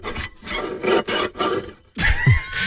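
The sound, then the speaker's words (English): A bow scrapes across fiddle strings in four rough, hissing back-and-forth strokes, then a final louder stroke with a grinding, faintly pitched edge. No one speaks. “And fire flew from his fingertips as he rosin up his bow, and then he pulled the bow across the strings and it made an evil hiss.”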